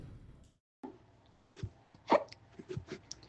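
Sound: hiccup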